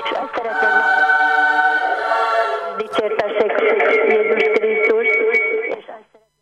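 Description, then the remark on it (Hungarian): Music from a radio in a phone caller's background plays steadily and fairly loud while the caller is on the line to a radio station, with sustained, layered tones that shift to a new chord partway through, then cut off abruptly near the end. “Technika ördöge úgy látszik betette a lábát, az előbb a picit lehetett már hallani a telefonálót, de közben a zene még mindig ment, most rádiót le kell kalkítani, hogyha valaki telefonál, tehát azért ez fontos.”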